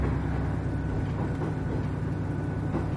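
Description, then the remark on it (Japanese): Steady, continuous low rumble of a local passenger train on the Iwaizumi Line bound for Miyako, running on rails, with faint clatter and no voices. “この車列車は岩泉線の普通列車宮古行きです。”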